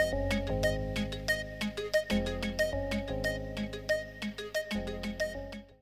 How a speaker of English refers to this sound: Somebody was just calling you.